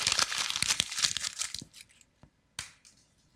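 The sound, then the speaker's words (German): Loud crinkling and crackling of a sheet of paper being crumpled up, dense for over a second, then a few sparse crackles and one last sharp crunch. “Du kannst es zerknüllen und wegwerfen.”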